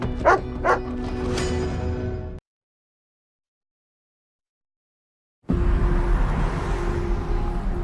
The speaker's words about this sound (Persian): سگ بد، باغ باغ و آروم باش.